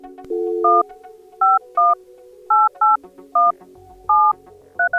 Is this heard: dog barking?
no